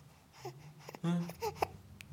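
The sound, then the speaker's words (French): A baby cries in a few short, strained wails with small whimpering sounds between them, lasting only a couple of seconds. “Non, arrête de pleurer, je suis désolé.”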